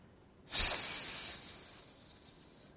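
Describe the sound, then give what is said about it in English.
A voice makes a long, breathy snake hiss: a sudden sharp onset, then a steady high sibilant rush that slowly fades over about two seconds, fairly loud, with no speech. “Slippery snake coming in somehow.”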